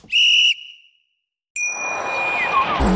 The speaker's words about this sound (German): So, dann würde ich jetzt sagen, wir pfeifen jetzt mal zur Halbzeit wir hören uns dann gleich wieder, oder? Ja. Okay, ich pfeife mal.